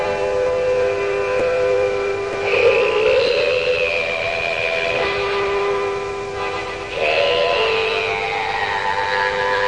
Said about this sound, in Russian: Аккордеон Дари. Он играет на аккордеоне вступление.